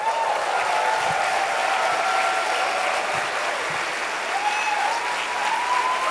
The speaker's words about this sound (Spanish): ¿Le damos un aplauso a Jesús?